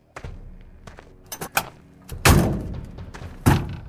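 Car doors click open and then slam shut as two men get into their cars, several solid thuds in quick succession with a couple of louder, heavier slams near the end, without any talking.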